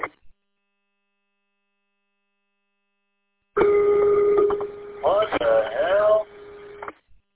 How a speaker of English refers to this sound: What the hell? Yeah, right? Like, what the hell would cause that? Very, it's like a generated tone. Pretty sure it's coming out of the guy in Flint's radio. I heard a feedback, but it's definitely coming out of the input.